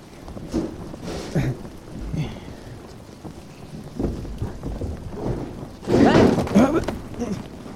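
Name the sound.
rain falling with thunder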